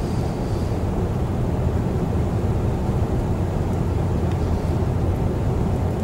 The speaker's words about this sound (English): Sitting in a car, so it's a bit difficult.